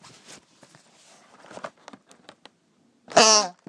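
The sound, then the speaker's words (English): Soft scraping and tapping of the cardboard lid of a long, narrow chocolate box, about 15 by 6 inches, then a loud, buzzy, fart-like squawk at the end as the lid is put down, with a strong pitched, reedy tone lasting about half a second. “I was just putting the lid down and I discovered that it farts. It makes some really strange noises, and I'm going to demonstrate to you.”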